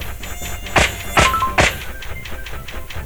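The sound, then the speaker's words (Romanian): A thin, whining mosquito buzz from a mosquito-swatting video game hums faintly throughout, broken by three sharp, swatting thuds in quick succession near the middle, with seven mosquitoes still left. No one speaks. “7 țânțari pe care la care nu știu dacă nu cred că mai ajung.”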